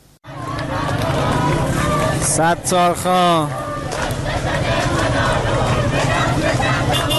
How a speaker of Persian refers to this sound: اینجا تهران است. صدای حامیان سیستان و بلوچستان را می شنوید.